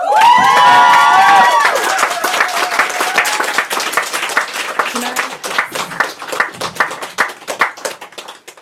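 An audience at a poetry reading bursts into loud applause with high whoops and cheers at the start, welcoming a poet to read, then the dense clapping carries on alone, gradually thinning and softening over several seconds.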